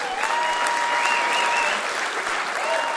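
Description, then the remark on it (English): A crowd applauds steadily, a dense, even wash of clapping that holds at full strength for the whole stretch, with a few faint whistles or tonal whoops riding over it. “We'd like to thank everyone for having us all the way over, and we'd like you, the audience, to give yourself a round of applause.”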